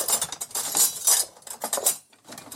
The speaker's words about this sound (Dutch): Even kijken waar mijn mes is. Ik zal hier een mes uithalen. Dus om de groenten fijn te snijden.